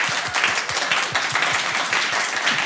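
Steady applause from a crowd, many hands clapping in a dense, sustained wash of sound with no voices over it, holding an even loudness throughout.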